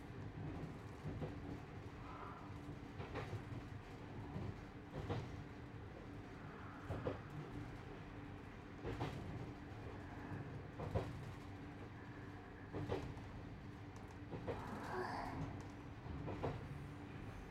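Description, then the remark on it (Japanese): A steady low rumble of the Marine Sideliner train rolling along the rails beside Omura Bay, on the section between Kawatana Station and Matsubara Station, with periodic clacks from the wheels passing over rail joints at an irregular, spaced-out rhythm. No one speaks. “そりゃマリンサイドライナーっていうくらいだし、海沿いちょこちょこいろんなところで抜けるけど、海を横目にがっつり走るって区間だったらここだよね。”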